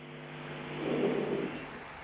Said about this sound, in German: Denken wir an unsere Katechisten. Was für eine wunderbare Arbeit die doch leisten. Die Botschaft des Herrn zu den Menschen bringen. Einen Applaus jetzt für alle Katechisten.